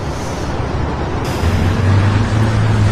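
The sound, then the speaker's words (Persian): A police department car drives steadily with a constant low engine rumble and broad road noise; the engine hum grows a bit louder and more tonal about halfway through, with no voices. “این ماشین اداره پلیسه.”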